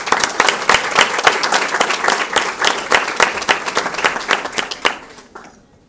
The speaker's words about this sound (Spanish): Entonces les pido que demos un fuerte aplauso